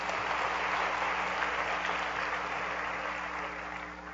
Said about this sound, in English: Let's give God another clap offering.